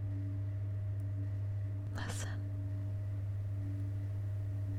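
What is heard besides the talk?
elevator humming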